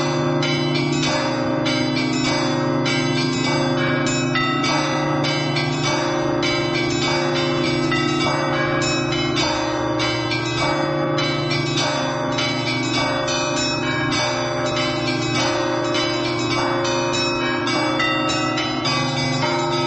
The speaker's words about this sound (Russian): На колокольне храма святого Григория Неокесарийского звонарь